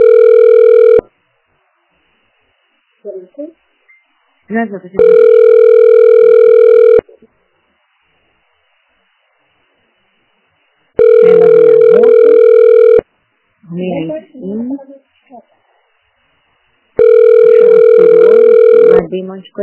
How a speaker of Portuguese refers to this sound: Você ligou para Unidade de Saúde, Jardim Janaína. Aguarde para ser atendido.